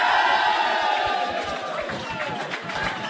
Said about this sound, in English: And, well, just to make sure that everybody has stayed in the room, I want everybody to give one loud cheer to let those at home know that everybody is still alive and kicking in Chairman. So, Chairman, the All-Ireland Ladies Champions.